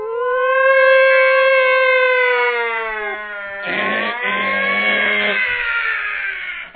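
A loud ambulance siren wails steadily, its tone slowly sliding, with a rougher burst of engine-like noise joining it partway through. No one speaks.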